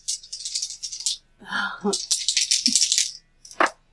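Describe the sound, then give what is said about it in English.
Dice, including a d20, rattle sharply in a cupped hand in two long bursts of bright, gritty clatter, with a brief voice between them, then a final short clack as they land, showing 6 and 10. “Okay, you got, where's the dice? Oh, there. There. All right, let's see what we start with.”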